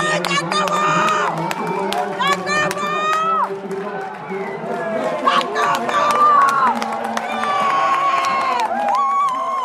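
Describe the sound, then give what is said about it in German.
A dense crowd of owners and fans cheers and shouts loudly and continuously at a horse race finish as a horse pulls past its rival on the home straight, many voices rising together with excited yells over a steady roar. “Dann zieht er unter den Anfeuerungsrufen seiner Besitzer und Fans unwiderstehlich an seinem Konkurrenten vorbei und gewinnt überlegen mit 3,5 Längen Vorsprung.”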